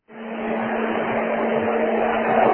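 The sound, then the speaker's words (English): Race cars accelerate on a green-flag restart with five laps to go: a dense, steady roar of engines swells quickly and keeps building, a thick wash of motor noise with a sustained droning tone, heard without any voices. “Coming to the green. Cars off.”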